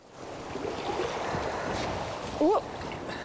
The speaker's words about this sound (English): filling a bucket with water from a river. She struggles to lift it up to the bank.